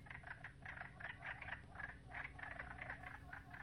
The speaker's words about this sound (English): There you'll find the wood frogs jostling with one another, cackling, and you'll actually see the sides of their necks inflate and deflate in response to the noises they produce.